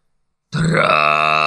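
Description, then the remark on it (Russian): After half a second of silence, a deep, rough kargyraa throat-singing growl bursts in loudly and holds steady, a gravelly low drone thick with buzzing overtones, sung alone, voicing the Russian word "tractor" with tensed muscles and a snore-like rasp. “Соедините напряжение мышц с храпом и произнесите слово «трактор» на каргара.”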